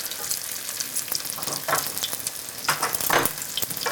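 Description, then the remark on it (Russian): Steady crackling sizzle of potato pancake batter, spooned straight into a well-heated pan and frying, with sharper bursts of spitting oil and faint scraping, continuous with no voices. “А я вот выкладываю ложкой прямо, не надо ничего формировать. Мы кладем прямо сюда.”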